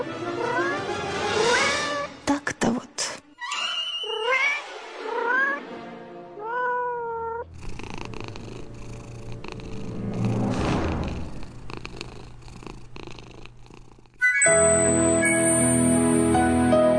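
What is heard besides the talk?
cat yowling and meowing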